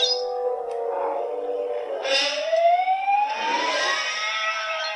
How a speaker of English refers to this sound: Okay. Right. That's the original. It's like a siren and a man screaming.